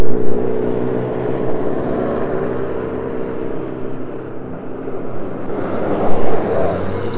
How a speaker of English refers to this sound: Listen to the cars go by.